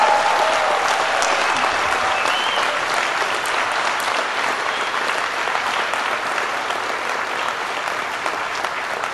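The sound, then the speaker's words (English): A large crowd of standing graduates of the class of 2014 applauds their supporters at a graduation ceremony for several seconds, a dense, continuous roar of clapping that stays loud and even throughout, with no speech over it. “All of you graduates, please stand up and look around you and give a big round of applause to all of those who have supported you during these years.”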